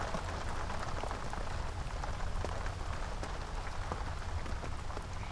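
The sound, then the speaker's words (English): Heavy rain pours down in sheets over a campsite, a dense hiss of countless drops pattering on surfaces, with scattered sharper splats standing out in the constant wash of noise. No voices are heard. “At first, the rain was light, but now it's pouring down in sheets!”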